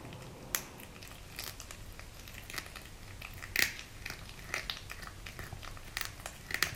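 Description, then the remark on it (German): A tomcat eats a small mouse it caught, inside the house, crunching its bones with sharp, irregular cracks and crackles, some louder snaps standing out over a quiet background hiss. “Dabei hört man die Knochen der kleinen Maus knacken.”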